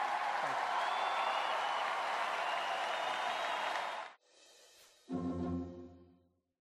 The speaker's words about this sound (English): And I have to say, as a Republican, it is so nice to hear you cheering for what I just said. Thank you.